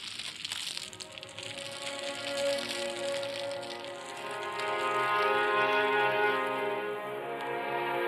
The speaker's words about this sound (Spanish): Las hogueras iluminaban las grandes ciudades como Cusco, desde cuyos cerros los gemidos de los indios Taki Onho se fundían con el crepitar de las llamas en las que los españoles quemaban sus pertenencias.